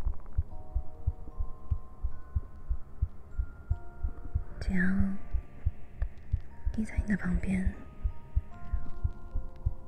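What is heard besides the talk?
heartbeat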